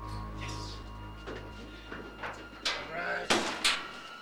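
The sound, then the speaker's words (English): A cabinet door containing explosives is handled in a half-lit trailer, with a faint creak followed by a few sharp wooden clunks and knocks in quick succession near the end, against a quiet low hum. “In the half-light, he has found a cabinet containing explosives.”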